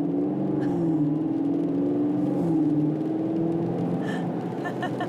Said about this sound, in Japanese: なんでしょうねこれやる気が、 ね、もう周りがなんかやる気のある車が通ってるっていうところですけど 楽しそうですよね。